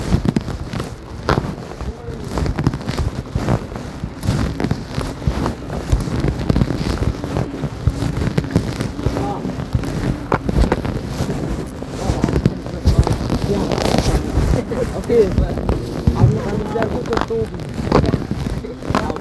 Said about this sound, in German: so jetzt die Böller schießen, so. Und so sagt man 1000 Zuseher, das ist jetzt schon ein fetten Riesenböller.